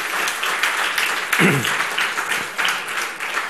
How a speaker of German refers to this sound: Und das ist doch auch mal ein Applaus wert.